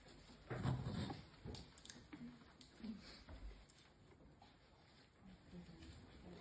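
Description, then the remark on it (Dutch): Several audience members quietly write with pens on paper, faint scratching and rustling mixed with occasional soft knocks and shuffles, no one speaking. “Misschien moet ik nog even wachten voor degene die willen schrijven.”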